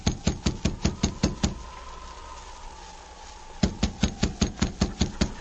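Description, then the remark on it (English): Sergeant Preston knocks on the wooden door of a cabin, two bursts of rapid, loud knocking, about eight sharp raps each, separated by a pause of roughly two seconds filled with a faint, steady whistling tone. “I'll knock on the door.”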